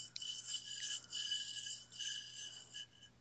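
Small hard objects, nuts and coins, being rummaged in a big jar, a faint, continuous gritty rattling and scraping that swells and eases in uneven waves, with no voices.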